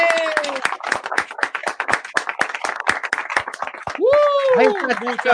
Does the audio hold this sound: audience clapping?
yes